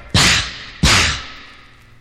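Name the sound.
whip cracking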